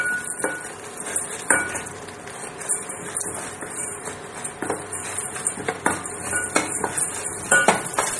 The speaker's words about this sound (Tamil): இந்த மணிக்கு ஸ்பூன் வச்சு உளுந்து சேர்த்தப்பறம் நல்லா கிண்டி விட்டுட்டே இருங்க